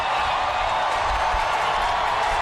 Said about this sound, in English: Crowd getting loud here at Oracle. Two runs in for the crew. A 4-2 Giants lead.